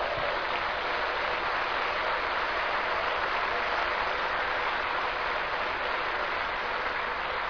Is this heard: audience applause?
yes